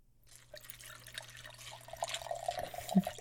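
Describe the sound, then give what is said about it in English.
Honey being poured, heard as soft, irregular wet drips and trickles that grow slightly louder over a few seconds, with no voices. “You want me to pour it while it's here?”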